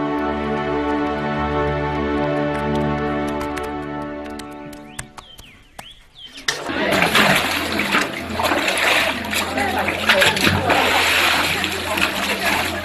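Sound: water splashing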